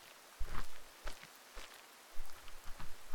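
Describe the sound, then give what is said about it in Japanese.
Rain falls as a steady, soft hiss while a few irregular footsteps thud and splash, with no talking. “なのに雨が降ってきたから。”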